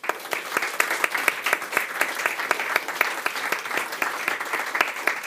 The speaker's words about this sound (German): Applaus für Stefan Thurnherr.